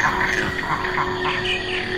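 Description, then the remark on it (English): A dense, unbroken chorus of insects, birds, bats and mammals, with steady buzzing drones and overlapping chirps layered into a constant, loud wall of sound, and no voices. “All these insects and birds and bats and mammals, it's almost as if they compete for acoustic space.”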